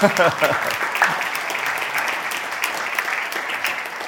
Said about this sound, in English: I don't think I've ever seen this room this busy. I've been here a few times, and I am so encouraged this morning. So why don't you give yourselves a round of applause?